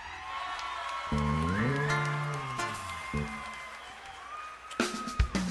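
An audience applauds steadily for several seconds for the performers of a milongão, a dense wash of clapping with scattered cheers, while sustained tonal sounds and a few sharper bursts rise over it toward the end.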